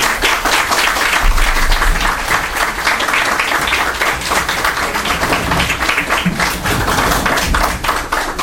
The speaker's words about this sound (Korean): 우리 하나님께 영광의 박수를 드려드리겠습니다. 저희 장로님과 자, 먼저 일어나셔서 박수하시죠. 돌아가면서 박수해.